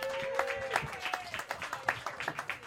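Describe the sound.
An audience claps in a dense, steady patter of overlapping hand claps, with some cheering voices and a brief whistle-like tone mixed in near the start.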